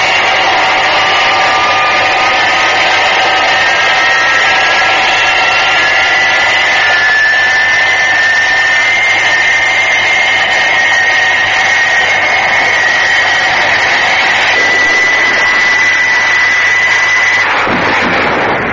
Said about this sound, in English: The giant supersonic aircraft taxis down the runway. And then, its jet engine screaming, hurtles down the runway for a perfect takeoff.